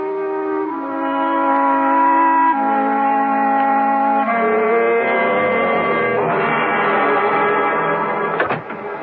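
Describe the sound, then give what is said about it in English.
A car's loud engine drones steadily as it drives off, its pitch stepping through several shifts as if changing gears while pulling away, ending with a brief clunk near the end. No voices. “Then, if you will excuse me, I'll just get into my car, and I'll return before you know it.”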